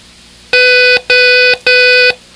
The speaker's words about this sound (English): Three long beeps. Repeat ho, ho, ho each time the O is sounded.